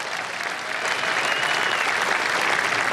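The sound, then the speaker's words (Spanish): Sustained audience applause after a political speech, a dense steady wash of many hands clapping at once, loud and continuous throughout with no voices standing out. “Más allá de los aplausos y también de los fuegos artificiales, emerge una cruda realidad.”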